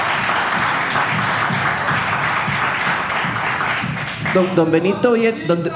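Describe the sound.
A burst of dense, steady applause fills the first four seconds, loud and even, before a person starts talking as the clapping thins out underneath.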